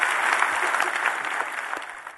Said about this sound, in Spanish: Si Dios te habló, dé un aplauso al Señor en ese día.